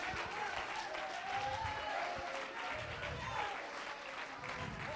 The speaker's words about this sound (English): Oh, clap your hands, all you people. Shout to God.